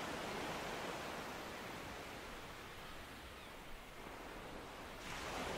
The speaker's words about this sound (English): You drift deeper into relaxation, feeling the calming ebb and flow of the ocean bring healing and serenity to you.